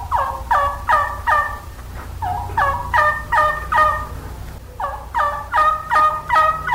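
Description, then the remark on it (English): Three quick runs of standard turkey yelps, made with a hunter's call rather than a live bird: sharp, evenly spaced notes, fairly loud, with no talking. “Let's begin with the standard yelp, the perfect call for old gobblers in the spring and also for hens and young gobblers in the fall.”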